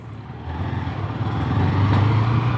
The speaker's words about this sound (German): Ich sitze auf einem Motorrad hinten und kann das Aufnahmegerät kaum halten. Wir holpern über etliche Straßen am Stadtrand von Rio de Janeiro.